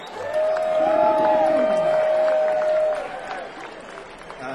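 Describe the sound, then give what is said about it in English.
A crowd applauds and cheers for about three seconds, with a steady high whistle riding over the dense clapping before the noise thins out. “This wouldn't be happening for sure without those guys, so huge round of applause for them.”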